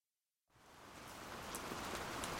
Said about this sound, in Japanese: 雨が降り続いている。今やずぶ濡れの日々が当たり前で、乾燥した日のことはみんな忘れている。この雨はいつから降り出したかの。忘れた。